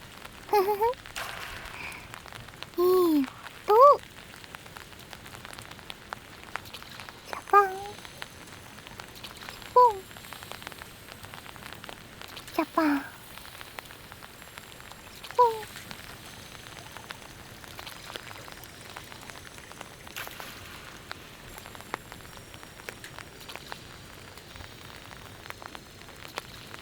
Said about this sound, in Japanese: あれ？かすかに水の音と一緒に音楽が鳴ってるみたい。